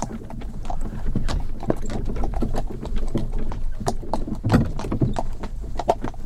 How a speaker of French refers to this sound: tu nous as amené en calèche du village de Cercq jusqu'à l'Épercurie Common, qui se trouve au nord.